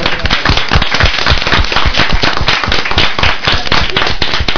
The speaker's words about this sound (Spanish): Un aplauso para ellos.